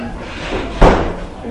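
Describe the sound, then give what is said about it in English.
A door is closed with a single firm thud partway through, fairly loud, over a low background murmur. “Do you mind if I close your door?”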